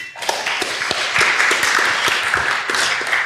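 An audience at a FrOSCon conference talk applauds steadily for the speaker from sponsor B1, dense overlapping claps forming a continuous wash of sound with a few sharper individual claps standing out, no talking.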